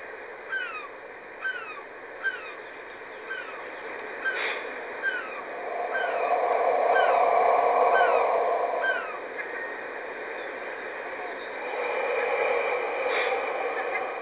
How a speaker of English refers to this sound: Listening to the coastal birds.